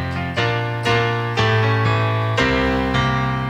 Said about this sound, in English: Okay, so can we hear the whole jingle, please? Yes. With no pressure at all.